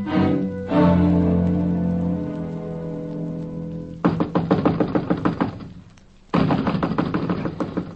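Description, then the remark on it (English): A sustained low tonal hum fades out, then knuckles rap on a door in rapid, loud bursts: one run of fast knocks, a short pause, then another insistent flurry. “I'm wearing my knuckles to the bones knocking on this door, Chief.”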